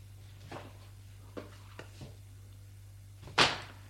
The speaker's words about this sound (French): Une fois qu'il a trouvé les tournevis, il démonte les portes du meuble et enlève les tiroirs qu'ils vont mettre dans l'appartement.